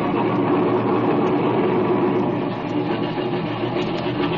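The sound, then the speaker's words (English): A loud, steady engine drone rumbles continuously, with a thick low hum and a broad roar above it, from Bender's air wing airplane engine running as it taxis. No voices are heard. “There's the engine. Look, he's taxiing over this way.”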